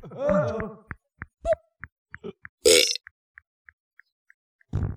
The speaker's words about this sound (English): Bonk that pig or he'll go.